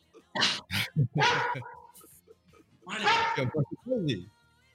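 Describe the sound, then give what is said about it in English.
A dog outside the house barks in several sharp, harsh bursts, pausing between volleys, with a slightly muffled, outdoor quality and no clear speech over it. “So once he's outside of the house, he keeps barking.”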